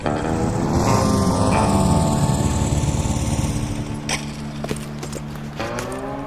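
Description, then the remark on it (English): A loud motorcycle engine rumbles as it arrives, its pitch easing down as it slows and settles into a steady idle near the end. “since when do you ride a motorcycle?”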